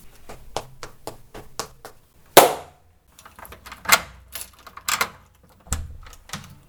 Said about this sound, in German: Die Kinder schrien und klopfen.